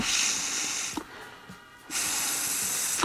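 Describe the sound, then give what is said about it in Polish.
Two long, forceful rescue breaths are blown into a CPR training manikin after chest compressions, each a steady airy rush lasting about a second, separated by a short pause with faint handling noise. “Teraz oddech.”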